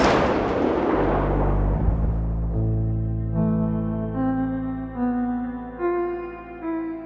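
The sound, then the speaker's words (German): A single loud gunshot fired in the dark in a radio play cracks out and rings off in a long, echoing decay, then dramatic music swells in with slow, sustained notes. No one speaks. “So ein Schuss im Dunkeln.”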